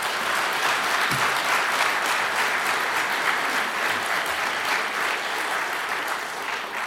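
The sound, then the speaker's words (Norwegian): A concert audience applauds the band steadily and loudly for several seconds, a dense wash of many hands clapping at once with no voices standing out. “Gi dem gjerne en applaus nå.”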